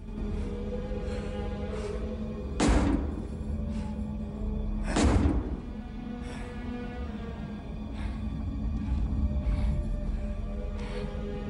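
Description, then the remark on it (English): Heavy, irregular punches thud against a hollow metal petrol tank used as a makeshift punch bag in a meeting room, two hard blows standing out among several softer hits, all over a steady low droning hum. “In the meeting room, Todd throws weary punches at the makeshift punch bag, a kind of petrol tank.”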